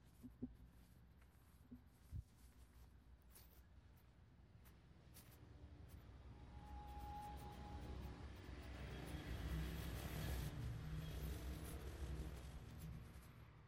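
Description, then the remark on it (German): Road traffic hums and rumbles steadily, heard in a forest by the Stuttgart TV tower, swelling gradually louder midway as vehicles pass, with a faint outdoor ambience and occasional soft clicks; no one speaks. “Wenn Sie genau hinhören, können Sie abseits von dem Straßenlärm die verschiedenen Sendungen hören, die von dem Fernsehturm ausgehen.”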